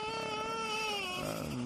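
A baby wails loudly in one sustained, high-pitched cry that wavers and then breaks into a lower, sobbing note near the end.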